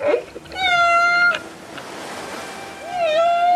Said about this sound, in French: Il s'agit d'un extrait du journal de 20h de France 2 qui se pose une question, mais pourquoi sommes-nous autant fascinés par le chant des baleines ?